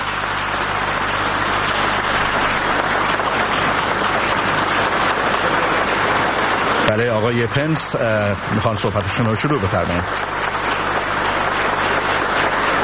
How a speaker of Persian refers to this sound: تشویق حضار رو میبینیم برای آقای پنس، معاون ریاست جمهوری امریکا